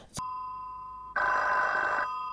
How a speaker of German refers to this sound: Das Telefon klingelte.